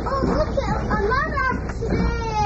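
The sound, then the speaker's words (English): Steady rumble inside a running UK cross-country passenger train making Britain's longest daily rail journey, a continuous low drone with a soft hiss on top, and faint indistinct voices murmuring in the background. “That singles us out, and this train being Britain's longest journey every day of the week is the best example of that.”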